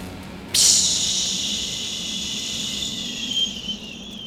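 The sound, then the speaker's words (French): A glowing red ember taken from a fire with tongs drops into a jug of water with a sudden, loud, high-pitched hiss that sizzles steadily and slowly fades over a few seconds as steam rises. No voices are heard. “Une braise rouge, vivante, furieuse. Il la jette dans une cruche d'eau.”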